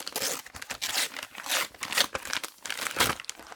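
Wrapping paper crinkles and crackles in bursts of bright, rustling noise, with a few sharper rips as a birthday gift from a grandmother, a new mobile phone, is torn open; no one speaks.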